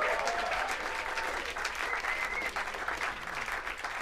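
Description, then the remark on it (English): Steady, dense audience applause at a streamed live jazz concert, as a bassist is introduced, fills the whole clip, a loud wash of many hands clapping at once with no pauses and no voices standing out. “I think you may hear your claps.”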